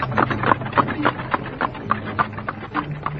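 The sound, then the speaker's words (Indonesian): Steady clip-clop of horse hooves at a brisk, regular trot, with a low rumble beneath suggesting carriages rolling along; two horse-drawn carriages are departing, escorted by riders on horseback. “Mereka pergi dengan menggunakan dua kereta kuda, sementara Samara dan Rakeh Jangkung menunggang kuda untuk menjaga keluarganya.”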